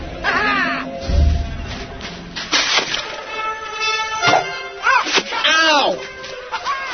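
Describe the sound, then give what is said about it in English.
A bird gives a series of harsh, cackling caws that rise and fall like laughter, repeated several times amid some commotion. “Laugh, you stupid bird!”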